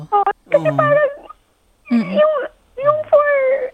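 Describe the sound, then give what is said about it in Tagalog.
A person cries tears of joy in wavering, high-pitched wails and whimpers, three emotional bursts separated by short pauses, fairly loud with no other sounds around. “Iiyak yata siya. Umiiyak na siya. Tears of joy yan.”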